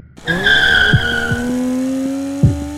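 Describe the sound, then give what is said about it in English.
Luther's car peels out with a loud, sustained tire screech over a steadily climbing engine roar, with a few sharp thumps along the way and no voices. “You see Luther's car peel out.”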